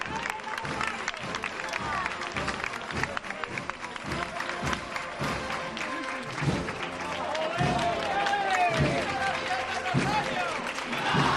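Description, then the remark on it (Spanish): A crowd at a Seville procession of the Virgen del Rosario bursts into spontaneous, steady, dense applause, many hands clapping at once, with cheers and a murmur of voices running underneath; it swells slightly louder toward the end. “Vuelven a aparecer los aplausos espontáneos y con naturalidad, que es como tienen que aplaudirse y cómo tienen que llegar las hermandades y las cofradías al corazón de los sevillanos.”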